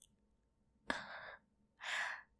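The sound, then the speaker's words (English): Two soft, airy breaths blown close to the microphone onto a man's penis, the first starting with a sharp puff and the second a smoother, slightly stronger exhale, with near-silence between them and no talking. “Just me breathing on it.”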